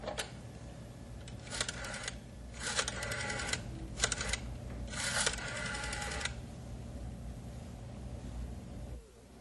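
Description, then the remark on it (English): A telephone is being dialed on a faulty dialing machine that won't reach the wanted number, with a series of short mechanical whirring bursts in quick succession over a steady low hum, then the clicking stops and only the hum remains. “Can't seem to get the number I want.”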